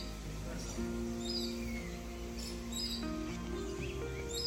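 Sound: birds chirping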